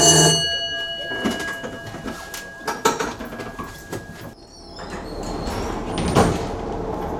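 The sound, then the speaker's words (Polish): A tram's warning signal, sounded by the driver, rings as a sustained tone for about four seconds, clear, then gives way to rumbling, clattering movement noise. “To jak jesteś gotowa, powiedz, że jesteś gotowa, teraz sygnał dźwiękowy.”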